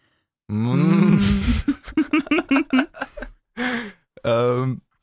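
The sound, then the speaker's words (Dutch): People mimic a cow's moo, saying hello in cow language together, with long, low, drawn-out vocal groans, followed by a choppy run of short voiced bursts and two more sustained moo-like calls. “kan je hallo zeggen in koeientaal?”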